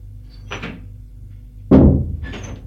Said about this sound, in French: ouvre la porte de la chambre.